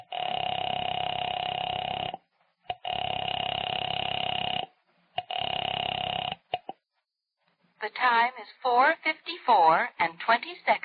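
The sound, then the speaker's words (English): Telephone line tones as a woman dials a phone, three long, steady buzzing bursts separated by short silences, fairly loud, followed by a person starting to speak once the tones stop. “knowing how foolish it was, knowing it, went to the phone and dialed.”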